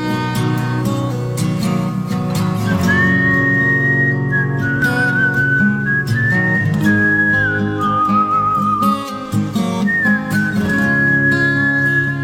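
A clear, steady human whistle carries a melody over a full band playing loudly beneath it, the whistled line sustained and sliding between notes for several seconds at a time.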